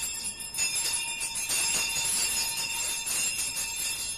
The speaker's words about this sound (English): It was with great astonishment and with a strange, inexplicable dread that as he looked, he saw the bell begin to swing. Every bell in the house was ringing.